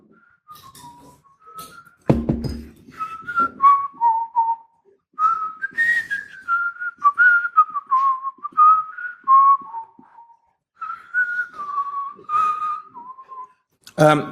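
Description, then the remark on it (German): Someone whistles the Tetris melody, a bright, steady tune of quick stepping notes in short phrases, with a brief thump early on and no talking. “Hat jemand die Tetris-Melodie auf Klick?”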